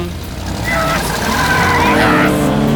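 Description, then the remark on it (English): A car accelerates away with a rising, squealing tire screech over a steady, loud engine roar, growing more intense through the brief moment. “I'm never seeing that car again.”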